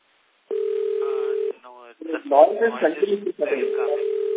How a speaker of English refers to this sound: there is some background noise coming from your end. Phone ringing noise is coming. Is it better now? Phone ring is coming from your line.